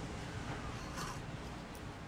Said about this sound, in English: Good morning. Can you hear the crackle of the surf? I'm not sure if you can hear.